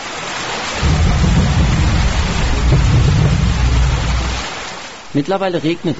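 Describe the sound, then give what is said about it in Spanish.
Steady rain hisses loudly with a deep, rolling rumble of thunder swelling and fading over several seconds, before a voice starts talking at the end. “Está lloviendo, el programa se acabó.”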